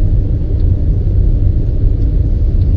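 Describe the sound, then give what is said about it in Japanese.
A car stopped at a traffic light idles with a steady, low rumble, a constant drone concentrated in the bass with no voices over it, on a sunny day with a little wind. “はい、信号で止まりましたんで、こっから先は正真正銘のアイドリングトークというわけで”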